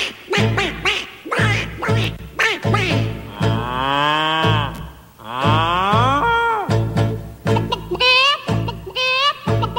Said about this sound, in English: Now on this farm he had some cows, E-I-E-I-O.